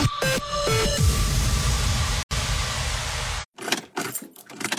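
A car that has been parked for a long time cranks and fails to catch: a rising whine and sputtering rumble, then a steady grinding churn, followed by a few irregular choking bursts as it dies off. No one speaks.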